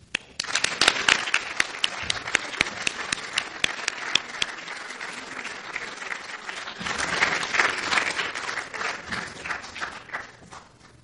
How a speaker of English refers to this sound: And another round of applause for Dr. Becklake and Dr. Julien, the Order of Quebec.